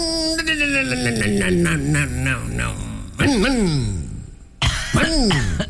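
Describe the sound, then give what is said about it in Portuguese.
A voice imitates a motocross motorcycle engine: a long, buzzy drone that slowly drops in pitch, then two loud, sharp revving bursts that rise and fall. “Como é que faz o barulho da moto?”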